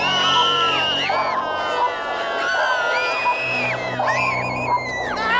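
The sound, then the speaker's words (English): A person lets out a long, loud scream, the strained high-pitched voice wavering and sliding in pitch, broken by a couple of brief pauses for breath before surging again. “I think everyone could use a nice scream about that.”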